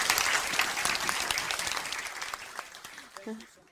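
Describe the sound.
An audience claps steadily for the speaker at the end of an evening talk, a dense patter of many hands that gradually thins and fades over a few seconds, with a brief voiced sound near the end as the applause dies away.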